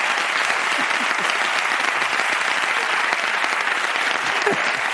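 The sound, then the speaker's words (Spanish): A large audience claps steadily and loudly, a dense wash of applause that holds at even strength for several seconds without pause. “por favor, un aplauso para ellos.”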